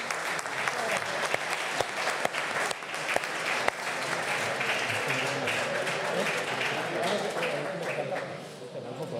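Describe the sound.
An audience applauds in a dense, steady wash of clapping that lasts about nine seconds, with a few sharper claps standing out, scattered voices mixed in, and a slight tapering at the end.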